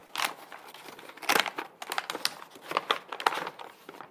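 Paper crinkles and rustles in a series of irregular, crackly bursts as a folded paper crane is unfolded back into a sheet, moderately loud, with no voices.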